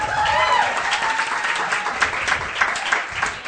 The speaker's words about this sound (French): On l'applaudit.